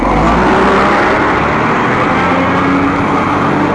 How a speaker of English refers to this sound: I would immediately, garbage truck there, I would immediately plug in with the local, with Time's Up, and okay, hitting the end of Valencia, taking a ride on Market.